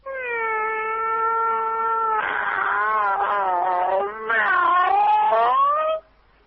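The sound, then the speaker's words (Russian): A man imitates a cat with one long, drawn-out meow that swells into a wavering, yowling caterwaul, loud, lasting about six seconds with no other sounds. “Мяу, да?”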